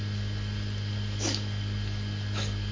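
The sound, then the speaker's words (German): An animal snorts twice through its nose, two short breathy bursts about a second apart, over a steady low electrical hum with no one talking. “Schnaub mal. Musst du auch mal Nase putzen?”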